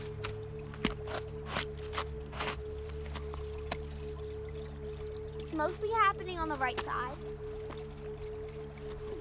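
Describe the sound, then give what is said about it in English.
Steady, soft trickling and pouring of water falling into a small waterfall hidden underneath snow, a continuous muffled wash of water, with a person talking briefly over it partway through. “So that's the water falling down into a little waterfall. But the cool thing is that we can't see the water falling. It's just that we hear it.”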